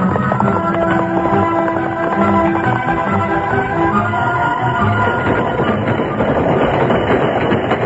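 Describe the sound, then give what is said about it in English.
A freight train rumbles steadily along the tracks, loud, with a continuous rolling roar, metallic rattling and faint rhythmic clatter of wheels, no voices. “Aboard the train, Dakota clung to the side of an empty freight car.”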